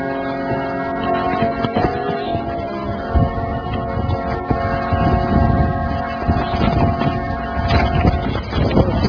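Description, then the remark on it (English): Steady gusting wind roars across the microphone, with scattered rustles and flutters of loose paper rising and falling over a low, constant hum. “pieces of paper flying everywhere. What's that? I didn't do it. Oh, right, yes. I know you didn't. I'm aware of the wind.”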